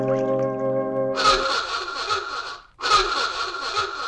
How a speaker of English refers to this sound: Then, because Flipper's out in deep water catching a mid-morning snack, Sandy picks up his klaxon horn to call his dolphin.